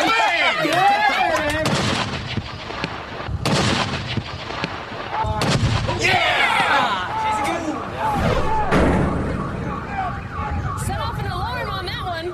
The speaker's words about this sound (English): Well, it is absolutely neck and neck in our heavy artillery cannon contest, and each team has only got 1 shot left.